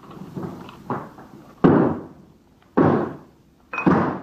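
Three heavy, booming thuds as someone kicks at a bathroom door to break it down, spaced about a second apart, each a sharp loud impact that rings out briefly, with fainter rustling and knocking between them.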